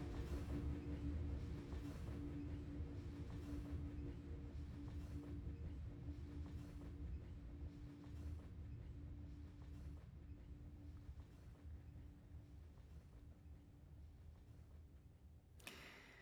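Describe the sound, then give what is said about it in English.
A passenger train in Mexico rolls steadily along the tracks with a continuous low rumble, faint rhythmic clicks of wheels over rail joints and a steady hum throughout, from an album. “…, and that's out on Touch in a couple of weeks.”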